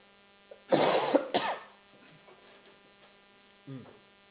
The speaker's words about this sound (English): Okay? just a second, let me clear my throat.